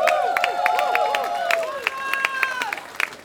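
Scattered clapping from an audience applauding the band's baritone saxophonist Thomas Budak, with sharp irregular claps mixed with high whistles and swooping whoops that rise and fall over the applause.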